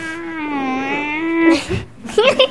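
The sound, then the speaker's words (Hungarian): A young girl's voice imitates a dentist's drill with a steady, high whining hum held for about a second and a half, followed by a few short, breathy vocal sounds. “És milyen hangja van a forrógépnek? Nagyon rossz. Tudod utánozni?”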